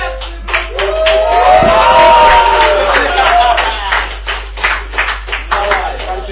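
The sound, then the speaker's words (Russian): Audience applause given in advance, with a burst of cheering and whooping voices early on, then the clapping continues as a dense, uneven patter before thinning into scattered individual claps. “Аплодисменты авансом, блядь.”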